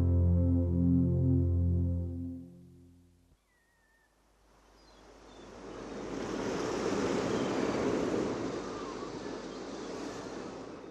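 After a brief low, droning tone fades out, the steady wash of sea waves breaking on a shore rises and fills the scene, a loud, continuous roar of surf with no voices.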